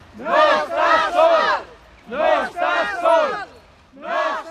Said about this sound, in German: Irgendwann im Laufe des Tages will ein Kamerateam eine Aufnahme von den lautstarken Rufen der nach Neumünster gereisten Katalanen machen.